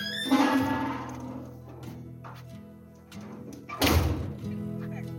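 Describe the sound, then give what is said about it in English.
A door swings shut with a solid thunk and a short rattle, loud, as people walk out the door to go to the market in Urimagua, while faint background voices and street ambience carry on around it. “So we're walking out the door and we'll continue, yeah?”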